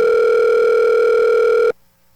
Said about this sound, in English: Boy, this is Emmy Award winning radio, just a phone ringing. Nobody answers the phone, they don't have any music.